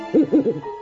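An owl hoots three times in quick succession, low and mellow and fairly loud, with a faint hum lingering after the last call. No one speaks.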